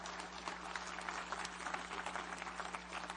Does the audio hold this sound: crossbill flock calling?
no